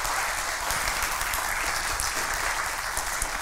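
Steady, dense applause from a large group fills the space, many hands clapping together at an even, sustained level without a break, moderately loud throughout, as the audience applauds the teams who served at Music Fest.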